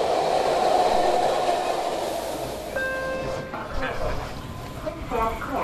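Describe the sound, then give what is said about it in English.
A BART commuter train in the Bay Area rolls along with a steady, loud rumble and rattle, a brief high-pitched whine cutting in midway, while indistinct voices of passengers murmur in the background. “Now, a lot of you called in and guessed that we recorded on BART, and that's right, but it's only part of the answer.”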